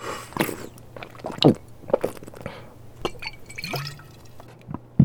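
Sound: drinking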